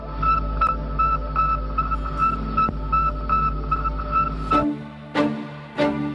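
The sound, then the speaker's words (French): The radio signal of a small 84-kilogram Soviet satellite in orbit: a steady run of short, high electronic beeps repeating in quick rhythm over a constant low hum and static, ending with a few harsher bursts of noise. “Ce petit satellite soviétique de 84 kilos n'émet peut-être qu'un petit bip, mais en l'envoyant en orbite, les scientifiques soviétiques ouvrent une nouvelle ère, celle de l'utilisation de l'espace.”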